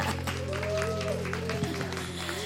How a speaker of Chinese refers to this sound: 我们给你掌声给我们的神， 我们给掌声我们的神，